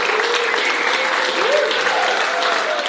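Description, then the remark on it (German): An audience at the Alabama cinema on Kampnagel applauds Beth Stevens and Annie Sprinkle at a screening of their documentary Playing with Fire, an Ecosexual Emergency: a steady, dense, even wash of clapping that holds the same loudness throughout, with faint murmurs and a brief rising voice-like tone mixed in. “Die beiden waren anwesend und wurden vom Publikum gefeiert.”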